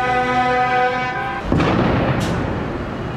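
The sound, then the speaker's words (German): A steady horn blares for over a second, then a loud firecracker bang bursts out at a farmers' protest in Brussels, leaving a dense wash of outdoor crowd noise and rumble, with a second sharp crack shortly after. “Nein, kein Bürgerkrieg, nur eine kleine Bauernrevolte. So geht das jetzt wieder, seit Mitternacht in Brüssel. Böller, Hupen, schwarze Rauchsäulen, gesperrte Straßen, blockierte Tunnel, massenhaft Polizei.”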